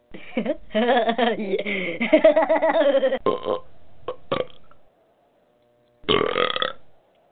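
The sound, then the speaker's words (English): A long, loud, drawn-out burp rumbles for about three seconds, followed by a few shorter gulping sounds and a second brief burp after a pause. “that was a good burp, by the way.”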